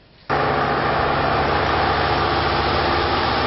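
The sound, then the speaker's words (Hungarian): A heavy excavator engine starts up abruptly and keeps running at a steady, loud drone, a low rumbling hum under a broad mechanical roar, as the excavator removes rubbish stuck at the Kisköre barrage. No one speaks. “Markolóval szedik ki a vízlépcsőnél megakadt szemetet.”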